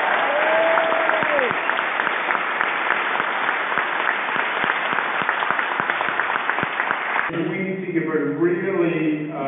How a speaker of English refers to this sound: First, to the Assemblywoman who has done such a great, great job, not just representing the district, but as a member of the conference for the entire state. Let's give Dee Dee Barrett a round of applause.